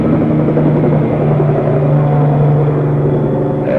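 A helicopter passes overhead, its loud, steady engine drone and low rumble filling the whole moment without letup; no one speaks.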